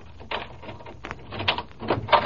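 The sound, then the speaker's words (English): A door chain rattles and scrapes as it is slid free, followed by the clunk and creak of a door being opened, a few uneven metallic bursts with no voices. “Take the chain off the door and let me in.”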